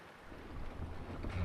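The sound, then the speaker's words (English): A jib sail flutters and flaps in strong wind aboard a sailboat, with steady wind rush and a low rumble of water filling the background, building slightly louder toward the end. “I think I need to sheet in the jib. It's flapping.”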